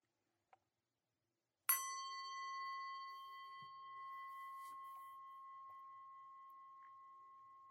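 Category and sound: signal or alarm, meditation bell ringing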